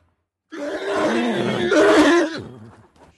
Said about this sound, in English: A squeal or scream usually denotes a threat by another horse.